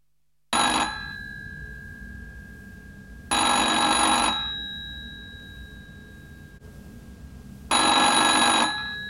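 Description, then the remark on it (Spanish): An old-style telephone bell rings in three loud, rattling bursts of about a second each, separated by pauses of roughly three seconds, with no one speaking. “Una llamada telefónica.”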